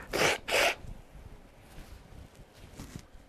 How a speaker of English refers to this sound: Because I'm about to blow my nose again